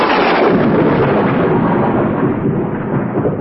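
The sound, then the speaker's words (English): A loud thunder crash bursts in at full force and keeps roaring as a dense, rumbling wall of sound, easing only slightly over a few seconds. No voices are heard. “Lightning flashed and smoke covered Moses.”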